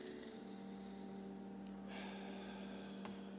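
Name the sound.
group taking deep breaths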